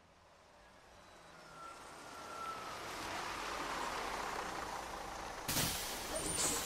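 The air brakes of a bus going to Willowbank hiss loudly, a broad rushing release that swells over a few seconds, then a sharp burst of air near the end, with traffic rumble underneath.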